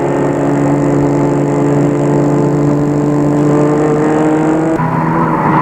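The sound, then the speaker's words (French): A car engine drones loudly and steadily, its tone holding for several seconds before shifting abruptly near the end as the pursuing car makes a U-turn and speeds off. No one speaks. “Mais la voiture, la dépasse, qui le poursuit, fait demi-tour lui aussi. Elle aussi et fonce.”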